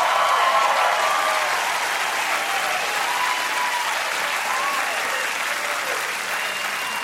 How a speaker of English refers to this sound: For Muslim Americans, that sustained applause was exactly what they wanted to hear.